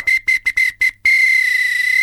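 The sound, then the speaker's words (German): A shrill samba whistle from Brazil, a wooden whistle on a chain that looks like a hammer, blown in five quick, staccato toots, then one long sustained blast. It is loud, with no voices. “Eine Samba-Pfeife aus Brasilien.”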